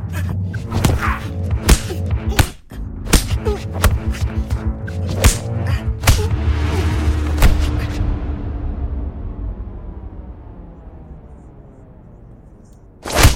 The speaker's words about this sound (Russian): Ремень вновь больно врезается пониже спины. Ровно 20 ударов.